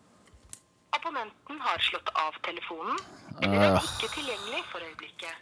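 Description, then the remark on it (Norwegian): A telephone call being placed, with dialing tones and a burst of ringing partway through, alongside people talking over the line. “Ja, men da bare ringer jeg.”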